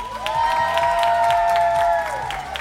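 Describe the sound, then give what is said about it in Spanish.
An audience in the studios of Sube la Radio applauds with steady, rhythmic clapping while a sustained high cheer or whoop rings out over the crowd, holding for a couple of seconds before fading. “Un aplauso, por favor.”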